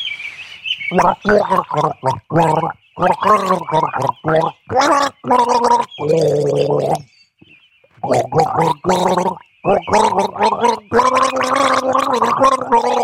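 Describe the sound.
Someone gargles a tune, the bubbling, wavering voice tracing a song melody in a series of phrases with short breaks between them, loud and alone without any other talk.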